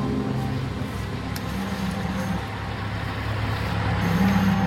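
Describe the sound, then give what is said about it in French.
Heavy engines rumble steadily throughout, a low droning of tractors, trucks and clearing machines working on the beach of Saint-Michel-en-Grève in Brittany, France, at low tide in the early morning in September 2009, with shifting tonal hums and a slight swell in loudness toward the end. “Dans les jours qui suivent, en ce début du mois de septembre 2009, chaque matin, en premières heures du jour, à marée basse, tracteurs, camions et autres déblayeuses continuent de prendre d'assaut la plage de Saint-Michel-en-Grève.”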